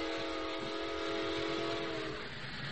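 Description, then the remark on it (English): A train roars through a station with a broad, steady rumble, a long sustained whistle tone riding on top before fading out near the end. No voices. “Remember, while that train is going through the station, a shot wouldn't be heard.”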